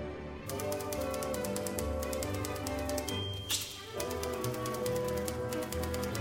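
Typewriters played as instruments: rapid, evenly spaced key clacks tap out a steady rhythm over an orchestral accompaniment, with a brief bell-like ding midway, all loud and close with no talking.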